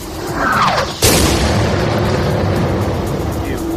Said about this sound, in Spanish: Este, el de los misiles, el de las metralletas, el de los disparos, un sonido que se repite en diferentes puntos de Ucrania, sobre todo allá donde Rusia intensifica su ofensiva